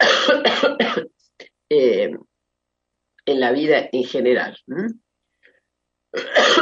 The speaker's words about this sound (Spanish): Disculpa, pero la tos me tiene un poquito. Tengo que tomar algo todo el tiempo.